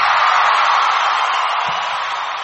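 An audience applauds and cheers to introduce a speaker on Patriot Broadcast from the Trenches, 89.5 Micro FM, Chiloquin, a dense, steady wash of clapping that stays loud throughout the couple of seconds with no one speaking.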